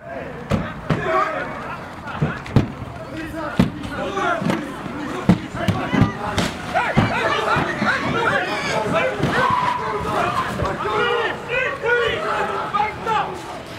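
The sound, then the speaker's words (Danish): Window panes being smashed amid a rowdy crowd during unrest in Uppsala, Sweden, when Rasmus Paludan appeared in front of a mosque: a steady roar of shouting voices broken by a dozen or so sharp, irregular crashes and bangs, some loud, others faint under the clamour. “Hvis man lytter godt efter, så er der knuste ruder og julespind.”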